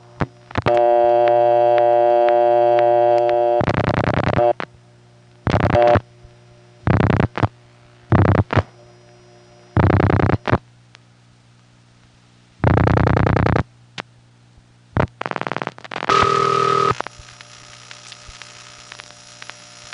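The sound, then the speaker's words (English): Electromechanical telephone switching gear in a central office clatters in bursts of buzzing, ratcheting relay noise with brief pauses, over a steady low hum, as the exchange searches a while before ending in a tone as an idle line is found. “What it sounds like when it has to search a little while before finally finding an idle line.”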